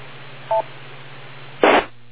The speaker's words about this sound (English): Wait for the beep and look at your watch.